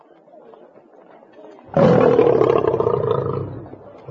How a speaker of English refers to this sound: What are they? Lions!